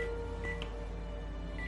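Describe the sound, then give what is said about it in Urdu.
A few short electronic DTMF beeps of a telephone number being dialed, spaced irregularly over a steady low hum, fairly faint, with no one talking. “ملا دیا میں نے.”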